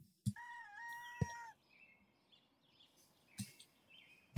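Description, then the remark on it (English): At the start of a song, a single loud rooster crow rings out, followed by quieter bird chirps and a few sharp percussive knocks, with no one talking. “Starts with some bird noises.”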